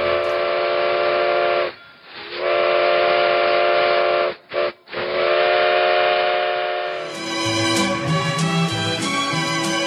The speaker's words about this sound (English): The train pulled into the North Pole and Tiny Tim exited the refrigerated car.